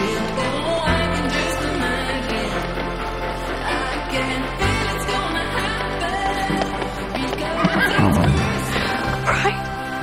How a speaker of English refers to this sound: riding in on the carriage, now being driven by a horse.